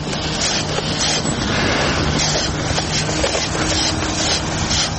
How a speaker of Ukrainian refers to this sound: Цей шурхіт мітлий чути самісінького ранку на вулиці Володимира Великого.